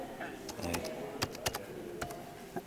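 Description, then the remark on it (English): Crisp, irregular key clicks from a braille keyboard as someone types in grade two braille in a note-taker program within Windows, a handful of sharp taps spread over a couple of seconds, with a faint background hum. “And I'm actually typing in grade two.”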